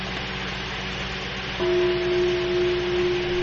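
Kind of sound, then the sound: signal or alarm, temple bell being struck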